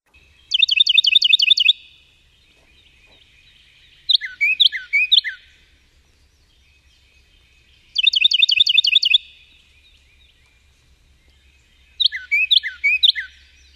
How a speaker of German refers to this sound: Und jetzt noch zwei Vögel, die ich vorstellen möchte. Carolina-Zaunkönig, der in Nordamerika und Mexiko vorkommt.